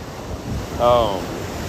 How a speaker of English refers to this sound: Because you guys, you hear those waves, right? Those, it's not just me talking. It's these waves talking to y'all too, man, okay?